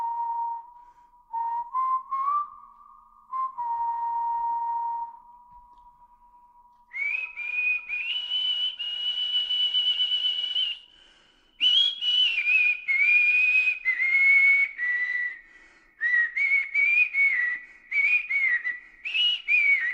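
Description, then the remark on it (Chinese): A clear whistled melody plays in a song, starting with a few low sustained notes, then rising into higher, livelier phrases separated by brief pauses, prominent with no voices. “好久没有听口哨声，对不对？”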